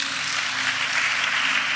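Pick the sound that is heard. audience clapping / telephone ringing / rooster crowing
audience clapping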